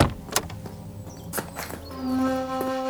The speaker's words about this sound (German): In diesem Moment öffnete sich die Fahrertür.